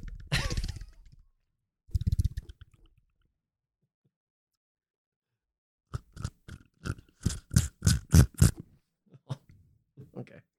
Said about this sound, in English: Sound like you were slurping.